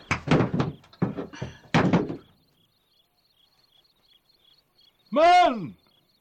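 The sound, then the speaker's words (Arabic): A rapid series of heavy thuds pounds against a door as someone tries to break it open, then silence with faint crickets before a loud, rising-and-falling creak or cry bursts out near the end. “إذن سأكسر الباب.”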